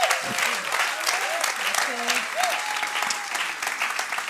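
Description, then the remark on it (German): Sustained applause from an audience welcoming a preacher who opens a sermon series, a dense steady patter of many hands clapping throughout, with a few faint cheers or voices rising briefly over it. “Lass uns hier einen großen Applaus geben.”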